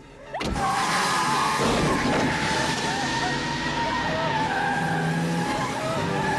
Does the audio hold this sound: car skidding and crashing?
yes